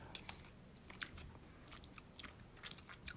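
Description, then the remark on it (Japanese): Wet chewing and slurping of a thick, level-15 spicy curry roux eaten on its own without rice, with irregular sticky mouth clicks and smacks scattered over a few seconds, fairly quiet with no talking. “はい、ちょっとまずルーだけね、咀嚼音がしますんで、すいません。”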